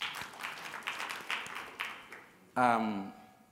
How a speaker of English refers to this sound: Oh, thank you very much. Please clap for him.